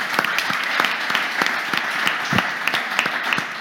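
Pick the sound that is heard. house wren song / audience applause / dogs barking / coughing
audience applause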